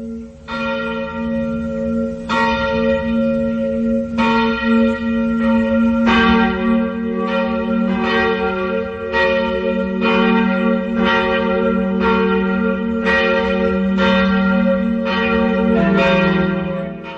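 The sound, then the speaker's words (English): Church bells ring for the Angelus, a steady run of resonant strikes roughly every second, their rich overtones overlapping into a continuous loud, humming peal with no voices. “En dan beluisteren we ook graag nog een fragmentje van gebed, het Angelus, gevolgd door een stukje van het middaggetijdengebed.”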